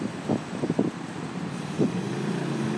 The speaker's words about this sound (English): Funny hissy noise. I think it's a bus or something. It went past me a minute ago.